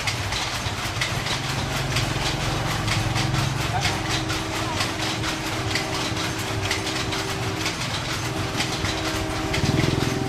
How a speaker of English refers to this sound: Don't be fooled by the train whistle. Those sounds are not train-related. The microphone is set up in the middle of the street in a small town in Myanmar between two establishments that are weaving silk on looms.